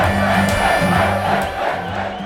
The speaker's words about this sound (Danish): Wrestlerne bruger engelske karakternavne, og publikum synger og hæpper, som man kender det fra amerikanske shows.